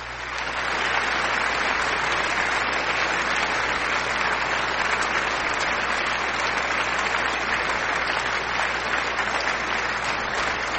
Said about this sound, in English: That's the wrong applause. Sorry, I meant this applause.